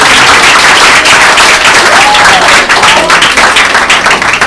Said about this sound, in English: No, guys, keep it in the books. Thank you. Round of applause. Thank you for having me.